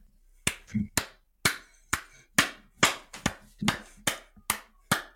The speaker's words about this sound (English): I don't know what that was. I just felt like clapping.